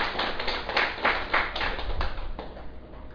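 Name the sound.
audience applause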